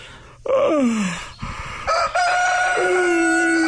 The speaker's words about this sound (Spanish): Por favor, que alguien apague al gallo.